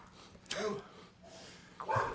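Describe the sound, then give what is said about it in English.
A dog standing in a doorway snorts and breathes heavily, two short huffing bursts about a second apart with quieter breathing between them, no one talking. “it's standing in the doorway. Watch the dog. Don't let it come in.”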